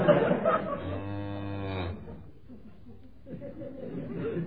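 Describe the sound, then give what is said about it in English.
A single drawn-out, low moo from a cow lasts about a second, clear, with murmuring voices and faint background chatter before and after it. “Then she is a cow.”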